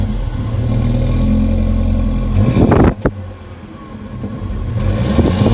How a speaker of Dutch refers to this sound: Weet jij van welke auto je zojuist het geluid hoorde?